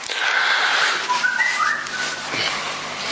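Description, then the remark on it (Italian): A whistle sounds a few short, wavering notes that rise and fall over a steady hiss of background noise, moderately loud, with no one speaking. “Non so se era il commento o la notizia, comunque è un fischietto.”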